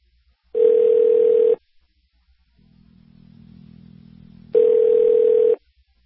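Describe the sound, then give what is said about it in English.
A phone line rings out twice on a call to the Kenyan embassy in Washington, D.C., two steady one-second electronic ringback tones separated by a pause, with a faint low hum filling the gap. No one speaks. “Let's hear the ringing on air, and then I'll talk to him.”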